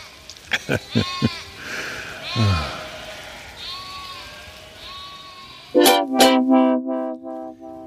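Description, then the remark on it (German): Several sheep bleat one after another, some fainter, ending with a loud, drawn-out bleat that wavers for a couple of seconds. “Die Schafe sind abgerückt.”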